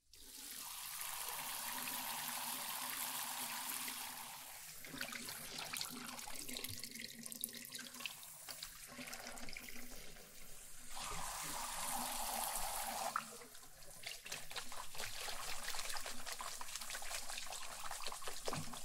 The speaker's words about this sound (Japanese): じゃあ、今度はお湯をかけていくけん、泡が入らんようにしっかり目を閉じとってね。